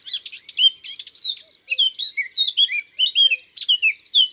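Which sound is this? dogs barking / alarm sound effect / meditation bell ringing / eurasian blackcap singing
eurasian blackcap singing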